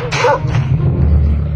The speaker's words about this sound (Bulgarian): О, какво, голямо куче? Моля те, остави ме! Моля те! О, слава Богу, отиди си. Да, аз съм толкова грозно, че дори кучето не иска да ме изяде.